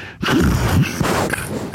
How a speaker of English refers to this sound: That's me snoring.